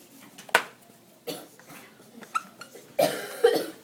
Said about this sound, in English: I have a bad cough.